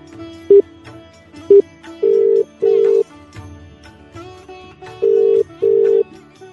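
Two short beeps of a phone being dialed, then a steady ringback tone sounding in paired bursts twice, over a faint musical background with no talking.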